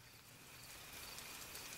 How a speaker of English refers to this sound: It's just rain now. Just rain. A little bit of cricket subtone in there.